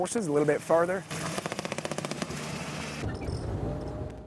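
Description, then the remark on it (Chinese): Bursts of small-arms gunfire crackle in a rapid, steady automatic stream of sharp shots during a military exercise, as an opposing invading force surges in, with a voice heard briefly before the shooting starts and a rumbling wash lingering afterward. “突然间，侵略军开始大批涌入，很多小型武器交火，于是塔隆特遣队大显身手的时候到了。”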